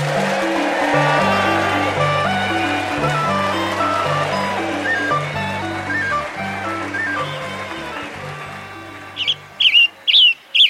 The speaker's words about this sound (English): These songbirds, the Western Tanager and the Scarlet Tanager, and your latte, have a connection you may not have realized.